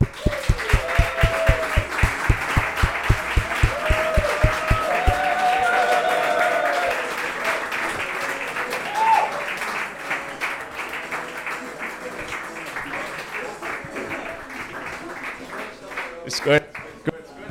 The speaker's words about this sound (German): Ja, ganz herzlich willkommen und einen grossen Applaus